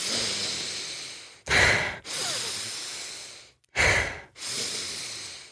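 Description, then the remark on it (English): A person demonstrates cyclic hyperventilation, a forceful, deliberate breathing similar to the Wim Hof method, loud: long, airy breaths broken twice by sharp, strong intakes, in a repeating cycle with no talking. “And it was also compared to cyclic hyperventilation, which is similar to the Wim Hof method for any of you who may know that, but it's where the cyclic hyperventilation is more like this.”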